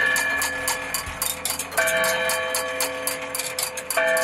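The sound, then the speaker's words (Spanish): A 115-year-old wind-up village clock in Doncos, whose sound is heard in six surrounding villages, ticks steadily and rapidly, and two ringing strikes sound over the ticking, each leaving a sustained, shimmering metallic tone. No one speaks. “encontramos un reloj de cuerda de 115 años de historia. Su sonido lo escuchan 6 pueblos alrededor.”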